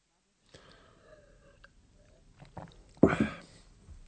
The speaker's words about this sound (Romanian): Dr. Thürmann bea mai întâi o înghițitură de bere, apoi îl întreabă pe Andreas.